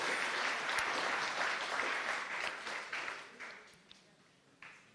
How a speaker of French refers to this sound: On peut les applaudir pour cet exercice fabuleux.